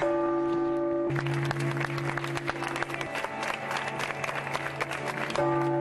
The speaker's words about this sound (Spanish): Con el sonar de las campanas de la Catedral de La Habana y un cerrado aplauso, los cubanos se le dieron el último adiós al cardenal Jaime Ortega y Alamino, que falleció a los 82 años el pasado viernes 26.